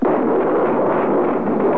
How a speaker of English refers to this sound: Now planes are going overhead. That baby was plenty low. And now flak is coming up in the sky.